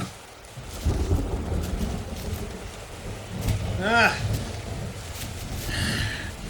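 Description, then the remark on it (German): Steady rain hisses while deep thunder rumbles and rolls through a stormy downpour. A couple of brief, high, voice-like wavering sounds cut in near the middle and end. “Ein Gewitter.”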